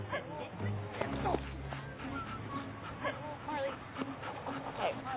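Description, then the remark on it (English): A dog whimpers with high, wavering whines and gives a few short barks during a dog obedience class, while people talk faintly in the background. “This class is a classic example of a dog who has foolishly been allowed to believe he is the alpha male of the pack.”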